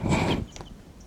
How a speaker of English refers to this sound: Wild birds are calling there. Wild birds are calling a bit loudly now.